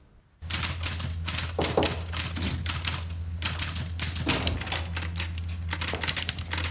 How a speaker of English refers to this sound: typing away in his office when Alex walks in